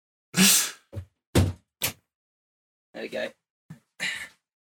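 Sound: window being shut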